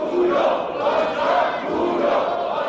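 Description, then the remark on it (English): MPs from the governing party protest angrily in Parliament after the vote to impeach Prime Minister Han Duck-soo. They shout and chant together in a continuous, loud roar of overlapping voices, with rising and falling yells that never let up. “There were angry scenes in Parliament with protests by MPs from the governing party.”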